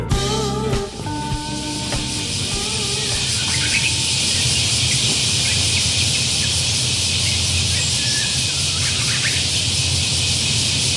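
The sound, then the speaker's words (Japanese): A Japanese bush warbler sings in the opening seconds, with clear whistled phrases, over a loud, unbroken outdoor drone of cicadas that fills the whole recording, in late July. “ウグイスね、ずっと鳴いてるのね。”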